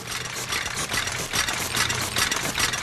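The wheels and gears of a fire truck red taffy machine at Phillips Candies, spitting out 145 pieces a minute, run steadily, a continuous mechanical whir with a low hum underneath and a quick, regular clattering pulse throughout. No one speaks.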